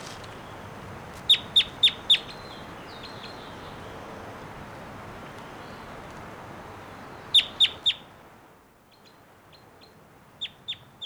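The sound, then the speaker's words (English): A wild bird gives loud, sharp, high-pitched calls in quick bursts of four, repeated twice over a steady hiss, with a few fainter calls near the end. No one speaks. “Here's that wild one again, giving some really loud calls.”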